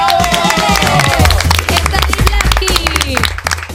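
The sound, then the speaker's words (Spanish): A steady burst of audience applause, dense and loud, with many hands clapping at once and excited voices cheering and whooping over it for a few seconds, for the listener who passed the casting and took part in the audio drama Cuerpos Especiales. “y sobre todo un fortísimo aplauso para el oyente que pasó el casting y ha participado en esta ficción sonora de Cuerpos Especiales.”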